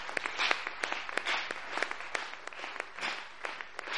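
An audience claps for God for the word they have heard, in a steady, dense wash of applause, many hands striking at once with sharp individual claps popping out of the crowd's sound. Nobody speaks over it.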